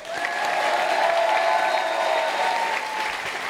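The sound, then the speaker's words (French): An audience claps steadily for a prize winner in a sustained, dense burst of applause lasting several seconds, loud throughout with a faint whistle-like tone riding along and no talking over it. “on peut l'applaudir bien.”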